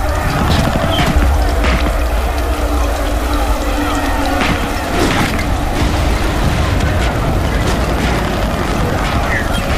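A strong wind roars steadily for the whole stretch, a dense rumble with gusty surges and scattered higher rustling and splashing textures on top, together with rain and mud as lived by a soldier at war, no voices.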